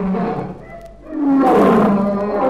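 A deep, rumbling lion roar swells from a low growl into a loud, sustained bellow lasting about two seconds as a crocodile snaps the lion up, forceful with no talking.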